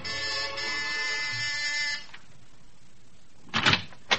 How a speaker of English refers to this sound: And you're at the house on Sutton Place, and you've got your finger on the buzzer.